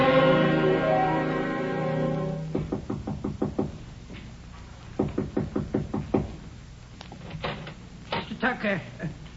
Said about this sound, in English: I knocked, but nobody answered, so I...